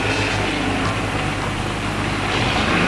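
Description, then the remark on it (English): A battered old flatbed truck carrying a load of live poultry drives slowly along a deserted country road several miles outside Gotham at night, its engine a steady low rumble with a constant wash of road noise for the whole stretch, no voices. “On a deserted country road, several miles outside Gotham, a battered old flatbed truck is moving slowly with a load of live poultry on board.”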